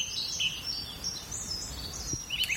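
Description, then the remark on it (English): A wryneck, a gray bird larger than a sparrow, gives its plaintive cry: thin high-pitched calls drifting in repeated streaks over a faint outdoor hush, fairly quiet, with no voices present. “It is a wryneck, a gray bird larger than a sparrow.”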